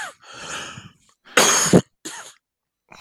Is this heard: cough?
yes